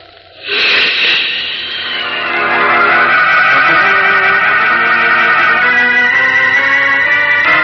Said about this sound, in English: Leaping up from the storm-swept beach, Superman streaks out over the wind-lashed sea into the very teeth of the howling hurricane. Farther out to sea, the gale is stronger. Fierce winds, sweeping at almost 100 miles an hour, swirl and lash